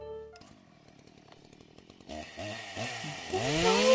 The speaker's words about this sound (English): Where was that chainsaw? I never saw it. Well, what does it matter? He's got a saw out there, probably covered with blood and gore